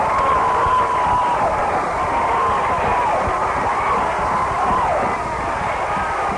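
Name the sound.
stadium crowd cheering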